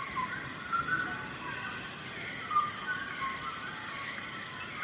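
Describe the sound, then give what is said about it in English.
A dawn chorus of many birds calling at once as they wake, up in the canopy of an old-growth forest: scattered chirps and whistles layered over a steady, high, buzzing drone that holds through the whole stretch, with no voices. “So this is a dawn chorus, and you're just hearing loads and loads and loads of birds all calling at once as they all wake up.”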